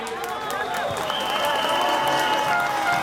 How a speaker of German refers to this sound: Sofia, Tag 76 der Demonstration gegen die Regierung von Ministerpräsident Bojko Borissow. EU-Abgeordneter Daniel Freund ist heute dabei und spricht zu den Demonstranten. Empfangen wird er mit großem Jubel.